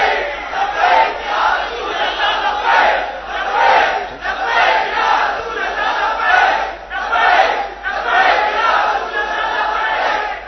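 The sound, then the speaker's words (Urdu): A large crowd chants a slogan in unison, loud, with rhythmic surging bursts of many voices repeating roughly every second or two throughout. “ان شاء اللہ تعالی ہم سب مل کر اس نعرے کو اسمبلی تک لے جائیں گے.”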